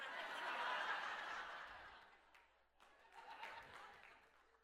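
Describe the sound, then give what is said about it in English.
A crowd breaks into clapping mixed with laughter after a joke about sin, loudest at first, then fading before a smaller second swell of applause and chuckles. “It doesn't deserve a clap.”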